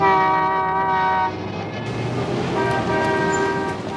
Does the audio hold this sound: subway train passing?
yes